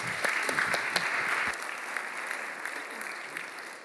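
A round of applause from a group, dense and steady clapping at moderate loudness with a few sharper individual claps early on, sustained through the whole stretch without talking.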